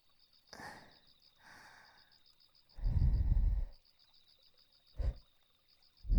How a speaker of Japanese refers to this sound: 最後に私の吐息で、あなたのお耳を癒して差し上げますわね。